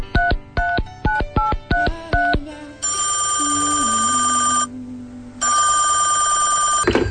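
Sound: telephone dialing and ringing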